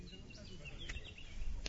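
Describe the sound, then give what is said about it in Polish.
Birds chirp intermittently over a low outdoor rumble in the silence of a Polish national memorial cemetery in Italy, with a couple of brief sharp clicks in an otherwise hushed open space. “Cisza panująca na cmentarzu, śpiew ptaków, który do nas dociera z tego miejsca”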